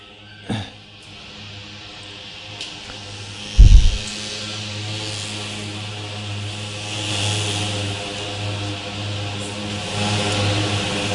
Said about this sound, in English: Sounds like an over-enthusiastic mosquito, but actually it's the spray for killing mosquitoes.